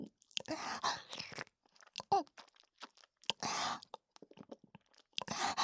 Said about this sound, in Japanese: 口の中でクチュクチュして味わって、お兄さん、わかる？